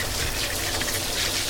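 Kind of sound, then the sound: household object, shower water running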